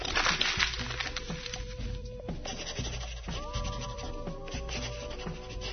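A pencil scratches and rubs across paper in steady, continuous strokes as a story is written, a dry rasping texture at moderate loudness, with faint tonal squeaks running underneath and no talking.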